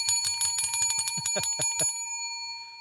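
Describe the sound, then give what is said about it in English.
A bicycle bell rings rapidly and repeatedly, a bright metallic trill of many quick strikes, then its tone rings out and fades over the last second. “Boy, that bell is getting more fun.”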